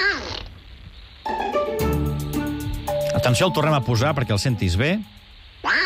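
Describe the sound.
A raspy, nasal Donald Duck cartoon voice, played as an audio clip in a quiz, quacks and babbles for several seconds in a buzzy, wavering stream, with a person speaking briefly just before and after it.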